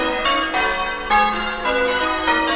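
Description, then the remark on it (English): Bells ring out loudly in a rapid, overlapping peal in the Los Feliz neighborhood of Los Angeles, with a fresh strike about every half second and bright tones sustaining between hits. No voices are heard. “Bells are tinkling.”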